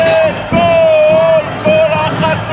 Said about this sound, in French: Ce soir encore à Tel Aviv, des centaines d'Israéliens manifestent pour demander la fin de la guerre à Gaza.